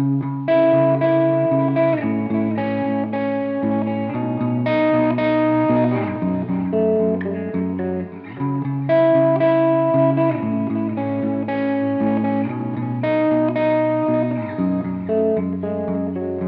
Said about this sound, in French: Donc là, on a un son sur un canal mono, donc un seul canal, et il n'y a aucun effet. Si je rajoute un effet de type reverb ou délai, ça devient tout de suite brouillon.